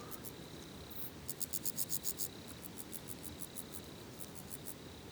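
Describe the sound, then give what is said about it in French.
Wood crickets chirp in soft, rapid pulsing trills over a steady hiss, sounding somewhat distant, with a brief louder burst of chirps near the middle and no voices. “On entend aussi en rumeur derrière, un peu plus éloigné, des grillons des bois.”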